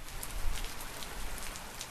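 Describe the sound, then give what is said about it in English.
Steady rain falling in the northern half of Alabama, a dense continuous patter of drops with soft sharper taps scattered through, moderate in volume, with no voices. “The sound of rain is a luxury for many residents across the top half of Alabama.”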